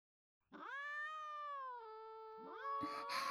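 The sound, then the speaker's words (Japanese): Cats beg for treats, clinging at someone's feet: a long, drawn-out meow, quickly followed by a second rising meow that overlaps it, both loud and insistent with no talking. “猫におやつをあげてからお茶を入れてきます”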